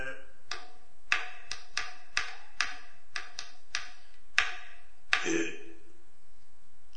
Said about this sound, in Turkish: Bu kalemlerin içinde delikler var efendim, kutucukların içinde delikler var. Bu kalemle buralara bastıracaksın. Kalemle buraya basacağım.